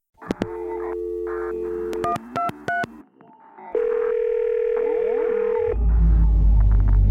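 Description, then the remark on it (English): A telephone rings electronically: steady, loud line tones interrupted by a few quick beeping pulses, then a long sustained tone with warbling sweeps, ending over a deep rumbling hum. No one speaks. “The phone is ringing.”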